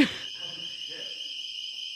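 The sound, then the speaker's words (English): A continuous, high-pitched electronic alarm drones steadily for the whole stretch, its shrill layered tones unwavering, with only faint low murmurs underneath. “The ball alarm.”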